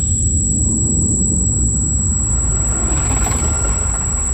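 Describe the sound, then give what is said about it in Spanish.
The deep, steady roar of an atomic bomb explosion, a loud, continuous low rumble that barely changes over a few seconds, with a thin high-pitched whine running above it. “Mira que dices, bueno, a no sé, por radio a lo mejor no puedes transmitir lo que puede ser una explosión atómica, pero es que no sé si es que tenemos esa imagen clavada en la cabeza de tantas películas.”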